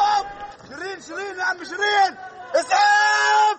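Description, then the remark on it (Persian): Members of an Al Jazeera news crew shout and scream in alarm after gunfire in the West Bank, loud, in overlapping, strained bursts that end in a sustained high-pitched cry. “صدای تیراندازی و بعد فریادهای تیم خبری شبکه الجزیره.”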